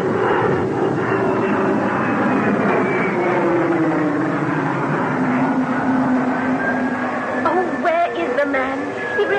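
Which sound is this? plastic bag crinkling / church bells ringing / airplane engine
airplane engine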